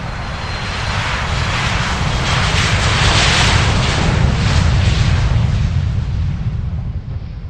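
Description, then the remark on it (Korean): A steady, loud airplane engine roars throughout, a broad continuous drone with deep rumble and airy hiss, holding even intensity as if heard during flight. No voices are present. It is Kim Jong-il's private plane No. 216, flying from Moscow airport to Pyongyang. “후지모도 일행은 그 비행기를 타고 함께 평양으로 돌아온다.”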